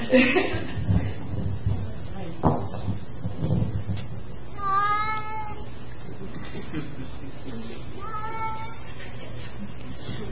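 A male farm cat from Germantown, about 6 or 7 years old, cries out with two drawn-out, wavering, plaintive meows a few seconds apart, over a low steady background hum with a few soft knocks at the start.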